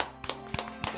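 A brief, sparse round of applause: three or four separate sharp claps at an uneven pace, fairly soft, with no talking over them.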